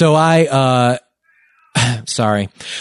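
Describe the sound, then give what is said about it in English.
A cat meows loudly, two drawn-out cries, a brief pause, then several more insistent meows in quick succession. “And so please be quiet, cats.”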